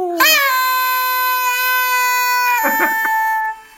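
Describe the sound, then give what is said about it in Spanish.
A cat lets out a single long, loud meow, holding a steady, piercing tone for several seconds before it wavers and breaks off. No one speaks. “Es alucinante la Eden, ¿eh? Lo que hace por figurar y por salir en los sitios, la tía, ¿eh?”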